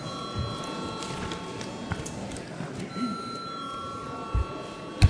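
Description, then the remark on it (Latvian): A steady electric bell rings without a break for several seconds in a parliament chamber ahead of a vote, a bright sustained metallic tone over a low murmur of voices and shuffling, with a few soft thumps near the end. “Lūdzu zvanu.”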